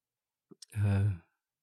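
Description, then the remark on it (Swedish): A person yawns once, a drawn-out voiced groan lasting about half a second, preceded by two small mouth clicks, then silence. “Det är så tråkigt jag pratar om, så jag gäspar själv.”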